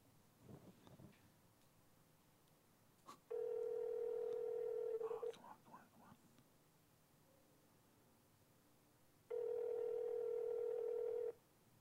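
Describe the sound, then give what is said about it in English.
Two long, steady ringback tones sound through a phone line several seconds apart, the call ringing out with nobody picking up; faint background murmur comes before the first ring. “They're probably 20 not minutes, answer the phone.”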